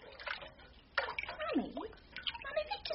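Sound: stirring water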